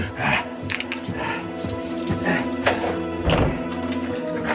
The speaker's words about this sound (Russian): Тут я сообразил, что лавочник в доме один. Он стал ходить по дому и запирать все двери.